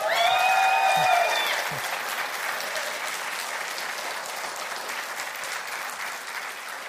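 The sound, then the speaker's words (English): A large church audience claps steadily for several seconds for the pastor's wife, a dense, even wash of applause, with a short high whistle cutting through at the start before the clapping slowly thins. “Now, if you really want something to applaud about, this is my wife,”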